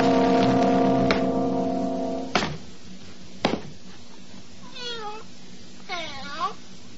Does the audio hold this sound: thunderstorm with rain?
no